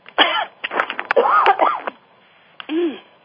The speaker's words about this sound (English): Excuse me. That cough took me by surprise.